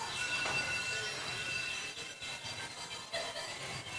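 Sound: christmas bells ringing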